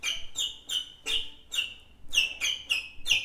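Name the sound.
small birds chirping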